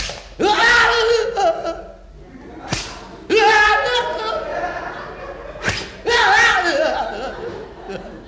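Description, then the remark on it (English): Three sharp whip lashes crack against a man's oil-covered bare back a few seconds apart, as punishment, each one instantly followed by a loud, strained yell that trails off before the next strike. “Nothing. Whip away.”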